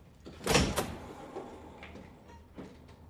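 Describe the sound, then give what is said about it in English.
A door swings shut with a loud, quick double thud as a woman marches out through it, followed by a couple of faint knocks and rattles fading into quiet. No one speaks. “She drifts out of focus as Leo stands watching her march out the door without him.”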